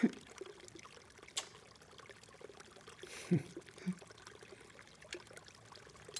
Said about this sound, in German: Wow. Das ist ja ein richtiger Garten. Und riesig ist der. Mit diesem Wasserfall hier und dem Bach da hinten.